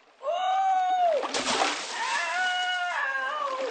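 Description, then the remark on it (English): A loud splash as someone falls into water, a short burst of churning spray framed by raised, excited voices calling out just before and right after. “…'s fallen in.”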